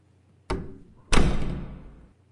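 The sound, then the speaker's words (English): A door thuds shut, a sharp knock followed half a second later by a louder, heavier slam that rings out briefly before fading, as the door is shut and locked. No one speaks. “Door locked”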